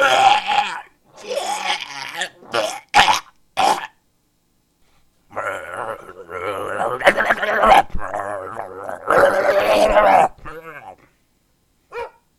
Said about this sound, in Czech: Zlej pes, pojď sem, ty borchande. Pojď, zastavte toho psa, teď ukaz.